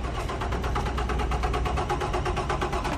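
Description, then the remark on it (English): An older natural gas truck engine runs loudly and steadily, with a deep rumble and a rapid, even chugging pulse throughout. No one speaks. “The older trucks often sounded like this.”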